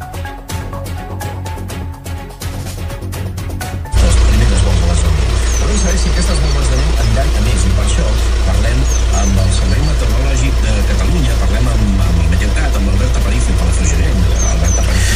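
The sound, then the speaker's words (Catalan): Inside a car at La Fosca beach during snowfall, a steady engine rumble suddenly swells after a few seconds of quieter ticking, then holds as a loud, continuous idling drone with muffled indistinct sounds above it. “Vaja, és el so ambient de la platja de la Fosca des de l'interior d'un dels cotxes d'un dels nostres oients”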